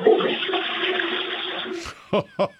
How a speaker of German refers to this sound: Ihr habt ja voll die laute Klospülung.